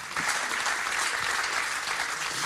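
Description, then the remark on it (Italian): An audience claps steadily in sustained applause after a poetry reading, a dense wash of many hands at fairly even loudness, with no voices standing out above it. “Facciamo un bel applauso.”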